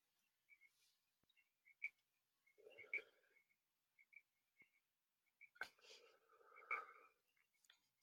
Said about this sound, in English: I can hear the frogs or the crickets or whatever they are. They sound like frogs. Oh, I know. They're. It could be a little bit of both, actually. There's a creek that runs through this property. So there could very well be frogs mixed in